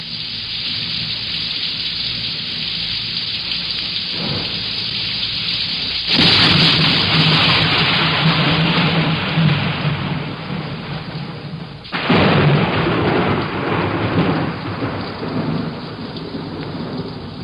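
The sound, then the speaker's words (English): Steady rain pours down with no voices, while two heavy rolls of thunder swell in at about six and twelve seconds, each rumbling loudly before easing back under the downpour. “There's rain.”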